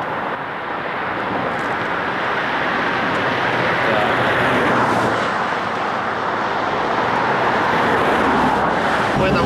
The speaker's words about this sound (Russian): Смотри, едет машинка.